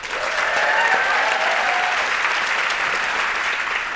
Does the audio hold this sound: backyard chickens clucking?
no